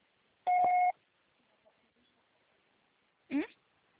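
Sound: voicemail recording beep tone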